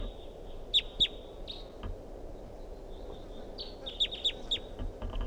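wild bird calling

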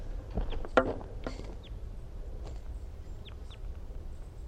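wild bird calling

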